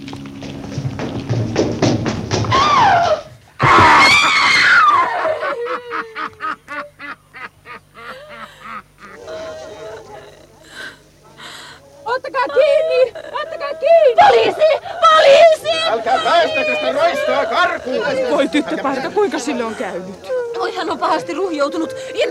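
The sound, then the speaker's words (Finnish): A girl's sharp, loud scream erupts after an opening burst of noise as a man throws her to the ground and tramples her at a foggy street corner in London's East End in the late 1800s, followed by a quick run of thudding impacts, then a commotion of agitated voices and cries. “Tyttö juoksi kadunkulman takaa ja törmäsi vahingossa erääseen miehen. Ja se roista paiskasi tytön maahan niin kuin vihoissaan ja tallasi hänet jalkoihin.”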